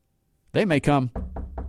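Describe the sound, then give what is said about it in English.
A short burst of voice gives way to three firm, evenly spaced knocks on a door, fairly loud, each a quick solid thud. “They may come knock on your door.”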